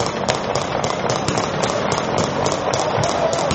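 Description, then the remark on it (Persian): Tear gas canisters fired by the Lebanese army on a Saturday to disperse Hezbollah supporters blocking the road to Beirut's Rafic Hariri airport, in a rapid, fairly regular string of sharp pops and bangs over a constant rumbling, noisy background. The bursts sound loud, with no clear talking. “روز شنبه ارتش لبنان اقدام به متفرق کردن این افراد کرد و به سمت آنها گاز اشکاور شلیک کرد.”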